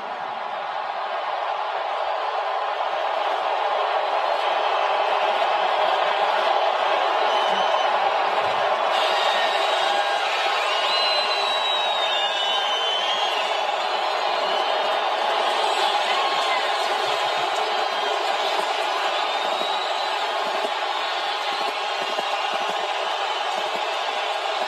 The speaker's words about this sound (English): I'd say pretty thunderous applause, pretty well received in New Orleans.